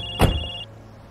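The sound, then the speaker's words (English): A mobile phone rings with a call from the office, a steady high electronic tone that cuts off after about half a second, briefly overlapped by a dull thump. No one speaks. “It's the office. I better get this.”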